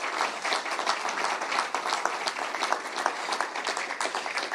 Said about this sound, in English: So I'm going to invite the two ladies up. They do a fab job. Could you give them a round of applause now?